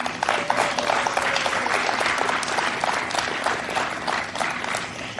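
A rally crowd applauds steadily with dense, continuous clapping after a line about President Joe Biden, and a woman in the background gives a high-pitched cheer near the start, like at a high school cheer competition.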